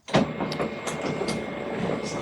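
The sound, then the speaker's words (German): A very loud mechanical printer whirs and clatters continuously, with repeated short clicks and rattling bursts over a steady droning hum, dominant. “Das hört sich nach einem wirklich sehr lauten Drucker an.”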